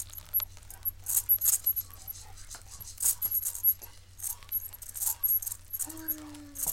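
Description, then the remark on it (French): Wood-boring larvae crackling inside wood: sharp, high-pitched ticks and crackles in irregular bursts, like rain pattering on pavement, over a low steady hum, with a brief low tone near the end. “Leur activité trahit leur présence par des bruits aériens très aigus et des vibrations mécaniques.”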